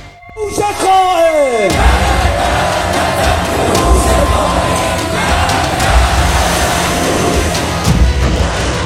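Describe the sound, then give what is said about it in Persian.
A lone voice lets out a long, falling bellow, then a large crowd erupts into a loud, sustained battle-cry roar that continues without pause, with deep thuds landing about every two seconds. “حالا نوبت آن است که فریاد برآوریم و پیمان عهد ببندیم.”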